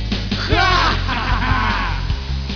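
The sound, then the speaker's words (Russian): A person lets out a couple of high, excited squeals of joy after putting on a pair of boots, swooping up and down in pitch, over a steady low background hum. “Я раздумывать долго не стал, я напялил эти ботинки и от радости, как свин, завизжал.”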